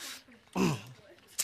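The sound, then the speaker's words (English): One strange, loud cough, from a little wiggle in the throat, bursts out, harsh and partly voiced with a throaty tone, framed by soft breathy noise and ending in a quick sharp hiss. “I was like the weirdest cough in the world, right?”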